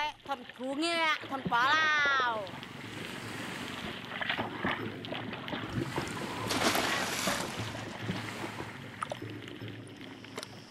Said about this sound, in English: I should say, at this point, you've heard this splash. This man has casually jumped off his boat into the sea, and now we go underwater with him.